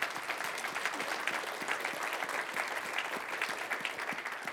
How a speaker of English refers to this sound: And so for those of you on search team, in fact, congregation, can we just applaud their efforts real quick?